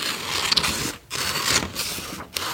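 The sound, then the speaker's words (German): Scissors cut through fabric in long, rasping snips, a steady hissy crunch broken by two brief pauses between strokes, with no one talking. Bird shapes are being cut out of fabric for a craft. “Genau, und jetzt kannst du die Vögel ausschneiden.”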